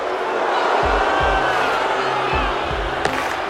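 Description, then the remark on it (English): A dense, steady roar of a baseball stadium crowd fills the air, sustained and loud, as the crowd urges pitcher Norton to challenge batter Ross on a 3-0 count; low thuds and a sharp crack near the end cut through the wash of voices. “This crowd roaring, begging Norton to challenge Ross with a decent hit.”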